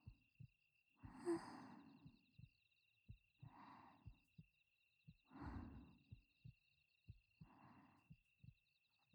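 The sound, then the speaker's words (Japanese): A steady heartbeat thumps in a soft regular rhythm, while slow, airy breaths rise and fall over it every couple of seconds. No one speaks. “なたと私の心音が溶け合って一つになって”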